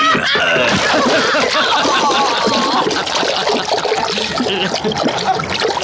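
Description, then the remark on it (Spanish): A heavy body, wrapped in a thick sack and bound with heavy chains, is thrown from a launch and splashes into the sea among reefs, followed by loud churning and gurgling as the water keeps roiling steadily for several seconds, with no voices. “El cuerpo de Calimán cae pesadamente en el agua.”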